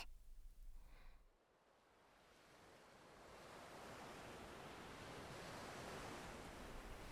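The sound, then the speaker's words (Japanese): Ocean waves wash in as a steady, broad hiss of surf, starting quieter after a brief low rumble and swelling into a full, continuous roar. No voices are heard. “ここは海。波の音に身を委ねて。”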